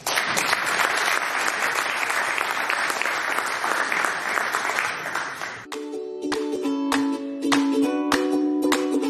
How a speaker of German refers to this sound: Und Sie heißen ihn jetzt bitte mit einem riesen Applaus willkommen.